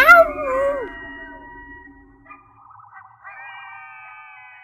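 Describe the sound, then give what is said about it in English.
Coyotes howling: a loud, sweeping howl opens, then thinner, wavering high-pitched howls carry on more faintly, overlapping a little, with no one talking. “Live coyotes.”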